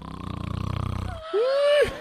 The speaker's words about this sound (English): you promised you wouldn't snore, and the minute you closed your eyes, you started.